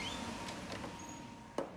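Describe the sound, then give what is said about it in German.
A door is closed with a single sharp click-thud near the end, after the light is switched off and before heading back to the corridor, preceded by faint rubbing and shuffling with a low background hum. “Tür zu machen.”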